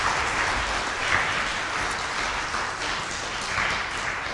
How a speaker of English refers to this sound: Yes, do clap if you wish.